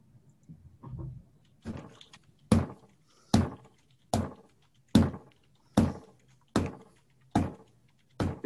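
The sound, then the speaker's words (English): A locked door is tried again and again, giving a steady series of sharp clunks about once a second, eight or so in a row after a few softer rattles, fairly loud. “Why can't I open the door? It's locked.”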